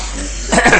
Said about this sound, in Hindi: हाँ खांस लो पहले।